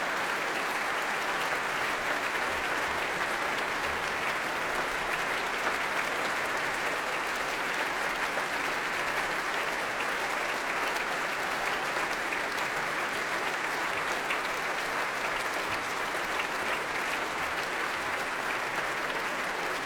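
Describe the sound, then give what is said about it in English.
Sustained concert audience applause at the BBC Scottish Symphony Orchestra prom, a dense, even wash of clapping holding steady at full strength for about twenty seconds with no voices standing out, for the world premiere of Thomas Larker's Concerto for Violin, Cello and Orchestra as Viktoria Mullova, Matthew Barley and conductor Ilan Volkov leave the stage. “Well, as they leave the stage, as the applause continues for that extraordinary work, it is time for the interval now.”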